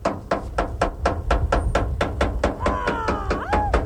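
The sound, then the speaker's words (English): A woman in a green sari bangs a pan with a metal spoon to scare birds from newly planted experimental crops at ICRISAT, the International Crops Research Institute for the Semi-Arid Tropics in southern India: a steady, quick rhythm of about a dozen sharp clangs over a low rumbling background, with a gliding whistle-like tone toward the end. “A 1,000 miles away, a woman in a green sari bangs a pan with a metal spoon to scare away the birds from newly planted experimental crops.”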